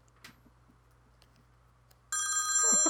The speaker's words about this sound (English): Sorry. I forgot to turn off my phone. Sorry, go ahead.